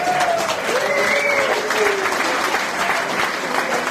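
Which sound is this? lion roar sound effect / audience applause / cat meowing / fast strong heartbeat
audience applause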